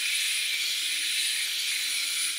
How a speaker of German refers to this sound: also quasi Schwinggebilde, die sich ein kleines bisschen bewegen, tausende Mal pro Sekunde, und damit eben diesen Ultraschall in diese Zement-Wasser-Mischung reingeben. In einem Film über Sonokret wird das vorgeführt und klingt so.